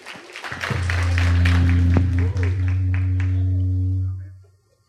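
A church audience claps together for about four seconds to thank a guest speaker, dense and steady, over a sustained low droning tone, before the applause and drone fade out into near silence.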